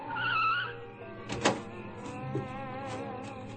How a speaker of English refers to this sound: I found an empty freight car and hid in it. I just clambered in when I heard a car drive up.